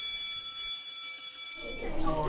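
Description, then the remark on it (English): A school class bell rings loudly and steadily for about a second and a half, a bright sustained metallic ring, then stops as a burst of louder, noisier sound takes over. “And each time we move on to a new part, you'll hear this class bell.”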